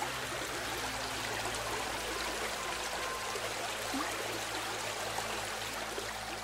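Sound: babbling river stream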